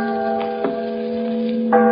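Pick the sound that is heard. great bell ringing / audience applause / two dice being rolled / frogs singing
great bell ringing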